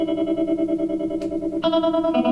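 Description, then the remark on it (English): An electric guitar chord rings out with a steady, quick tremolo pulsing its volume, a tremolo in between the Blackface Fender and brownface Fender types, then a new, brighter chord is struck and keeps throbbing at the same rhythm. No voices. “It's kind of in between the Blackface Fender type of tremolo and the old, the cream-colored.”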